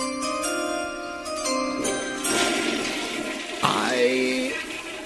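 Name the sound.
toilet flushing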